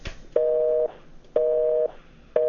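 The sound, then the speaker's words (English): A telephone busy signal on a phone line while trying to call someone: a steady two-tone beep repeating at an even rhythm of half-second tones and gaps, heard clearly on its own with no talking. “Now, that's what we were getting on the other line when we tried to call him.”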